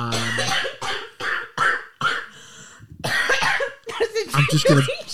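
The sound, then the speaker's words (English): A woman's loud fit of repeated harsh coughs in quick bursts, with a few throaty breaths and possible throat clearing between them, followed by more rough coughing mixed with voiced sounds. “I'm going to put … in the sin bin just because she's got a massive cough.”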